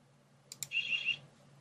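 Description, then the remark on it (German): Two quick clicks, then a brief, shrill electronic alarm tone that warbles slightly for about half a second before cutting off, over a low steady hum. “hast du wieder Alarm ausgelöst?”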